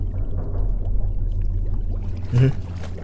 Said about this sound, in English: It was bubbling beneath the water moments ago. The cave is perhaps just below 4 meters in length and a relatively fine circle. Our little bubbling sea hole is in the middle, a deep abyss of ugly fish and salty, chilled water.